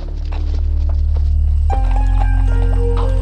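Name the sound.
horse hooves clip-clopping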